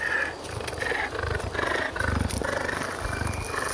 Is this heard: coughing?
no